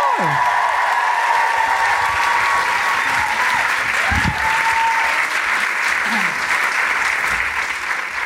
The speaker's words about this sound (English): Hello. Now, I know you've just clapped, but can I have you cheer and roar again for the trans community?